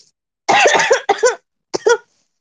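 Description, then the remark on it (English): A run of harsh, throaty coughs: a quick cluster of four or five, a brief pause, then two more sharp coughs. They're loud and raspy, with no speech. “When I started this place, I started coughing.”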